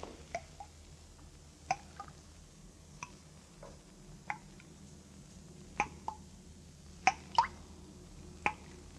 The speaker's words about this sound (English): No. Place is empty. Not a sound but the dripping water.